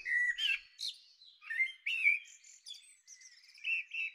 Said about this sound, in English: What have we got here? Blackbird, perfect. Input recording and play and get the levels right.